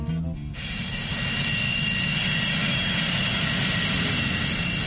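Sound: jet airplane engine roar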